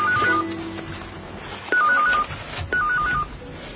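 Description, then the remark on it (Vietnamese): A mobile phone rings with a short electronic tone melody, repeating three times in quick bursts, fairly loud, with no one speaking. “Cái điện thoại di động của mình đâu rồi nhỉ?”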